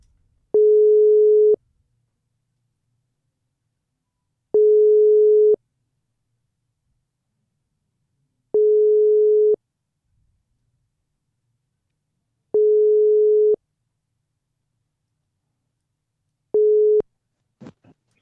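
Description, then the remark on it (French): A telephone ringback tone while a call connects to a member of the Belgian delegation on a boat: five long, steady mid-pitched beeps at even intervals with silence between, the last one cut short and followed by a brief click. “Est-ce qu'on essaie de l'appeler là?”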